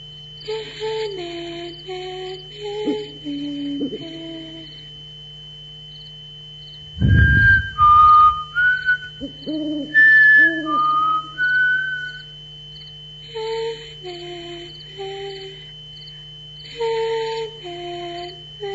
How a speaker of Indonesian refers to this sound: Aku mencoba menghibur diri dengan bersiul.